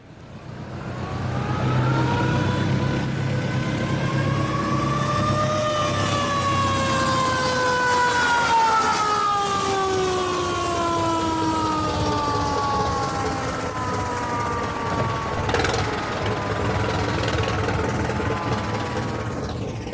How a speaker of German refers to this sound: Sie stammten aus dem Jahre 1912. Die Feuersirene ließ sich nicht einfach an- und abschalten, weil sie über einen Lederriemen mit der Mechanik des Fahrzeugmotors verbunden war.